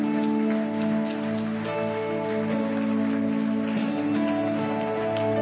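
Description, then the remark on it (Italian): An audience applauds loudly for Jesus in a dense, steady wash of clapping that holds at full strength for several seconds, with sustained musical tones humming underneath and no one speaking. “Facciamolo forte questo applauso a Gesù.”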